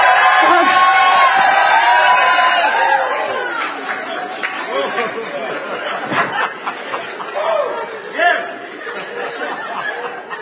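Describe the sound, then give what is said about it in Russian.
A church audience with hands stretched forward shouts "fire" and cheers together, a loud dense roar of many voices at first that thins into scattered cries, whoops and chatter over about ten seconds. “Протяните свои руки вот сюда. И кричите огонь.”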